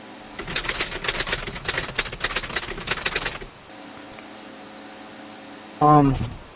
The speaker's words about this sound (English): I don't get the typewriter. What was that for?